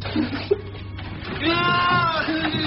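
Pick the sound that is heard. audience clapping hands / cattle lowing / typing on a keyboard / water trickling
cattle lowing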